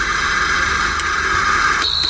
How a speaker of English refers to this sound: And then we've got white noise.